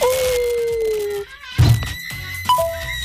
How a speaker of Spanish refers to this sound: El hombre lobo. Claro, con el eclipse se viene el hombre lobo, pues ahí está.